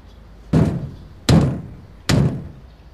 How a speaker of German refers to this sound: der Sammy Klaus klopft mit seinem Stab laut an die Türe.